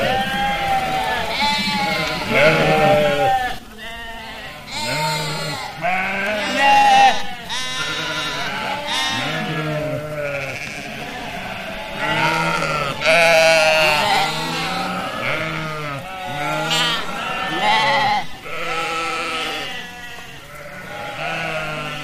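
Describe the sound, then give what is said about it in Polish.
A flock of sheep bleats continuously, many overlapping calls of varied pitch answering one another, fairly loud, with no talking. “I w tym oto momencie owce uznały, że już się prawie wszystkie nawołały i powoli całe towarzystwo będzie milknąć.”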